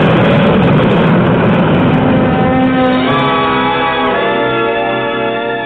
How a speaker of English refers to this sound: You're on one of Easton's whisper jets. The noisiest section is the pilot's compartment. Yep. We keep the door closed. Flaps coming five. In the cabin, it's quiet. The jets and the noise are behind you.